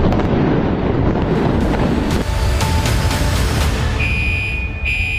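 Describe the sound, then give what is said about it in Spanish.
A building in the United States collapses floor onto floor like a stack of pancakes, a loud, continuous deep roar with a series of sharp crashing impacts, then a brief high whine near the end. No voices. “A la 1:22, el edificio se desplomaba como una torre de panquecas cayendo un piso sobre el otro, convirtiéndose en el derrumbe más mortífero en la historia de Estados Unidos.”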